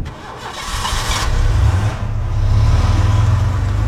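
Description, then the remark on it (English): A hired car's engine turns over with a brief rising whir, then settles into a steady, low rumble as it runs and pulls away, with no voices. “Yeah, but my lady, it simply isn't a good idea to sit in the front of a hired car.”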